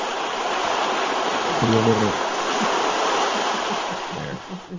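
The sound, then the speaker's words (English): Steady, broad wash of ocean water churning close to the microphone, which is placed right by the water, a constant hiss of surf with brief murmured voices faintly underneath. “Nice relaxing sounds of ocean breezes.”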